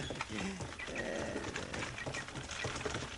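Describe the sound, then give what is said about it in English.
A horse-drawn buggy driven by Doc with Matt riding along rolls with a steady, busy clatter of hooves and wheels, a continuous moderate rumble with a brief creaking squeal rising through the middle. “How do you like riding in a buggy, Matt?”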